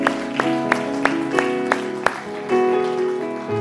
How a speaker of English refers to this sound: If you believe that, would you give God a hand clap of praise today?